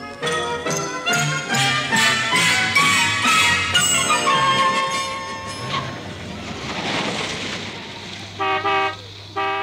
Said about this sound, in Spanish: ¡Eh, amigo! ¿No oye cuando le tocan bocina?